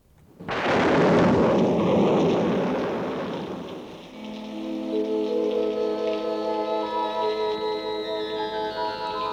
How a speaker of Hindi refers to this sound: बरसात ये बिजली की गरज तार चमक, ये घटाओं का अंधेरा, ये हवा की ठंडक, सर्द झोंकों से ठिठुरते हुए